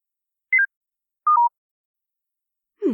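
phone keypad dialing tones

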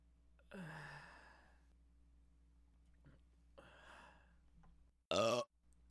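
burp

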